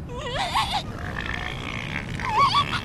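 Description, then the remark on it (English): Elephant seals grunt on the beach at Año Nuevo in the Bay Area in two wavering, throaty bursts, one early and one near the end, over a steady low rumble of background noise. “this is a good viewing area because you can look north and up the entire beach to see the elephant seals.”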